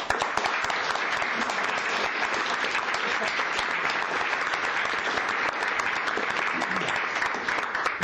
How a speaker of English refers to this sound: Let me say, can I say one other thing? We were trying to applaud. Well, you will now.